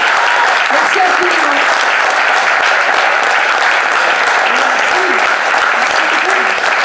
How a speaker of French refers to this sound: Quand on écoute bien cette chanson, je demande de l'applaudir encore. Merci.